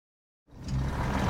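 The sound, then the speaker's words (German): After a moment of silence, a car engine rumbles as the car stops near a clearing in a forest in Lower Saxony, a steady low hum with a broad, gritty texture that holds at an even level to the end. “Ein Auto hält in der Nähe einer Lichtung.”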